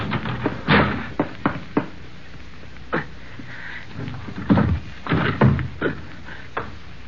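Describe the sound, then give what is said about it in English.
A phone booth door is held and handled, opening and closing with a series of sharp knocks, clacks and rattles spread irregularly over several seconds, with no talking. “Well, I'll hold the door.”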